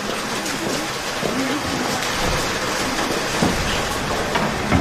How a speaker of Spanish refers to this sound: Primer día de escuela y ya llegó la lluvia. Creo que es buena señal.